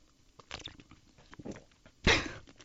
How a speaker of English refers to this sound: It's like, I'm going to open my water bottle right now and drink from it.